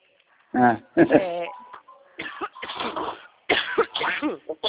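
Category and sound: human body sound, coughing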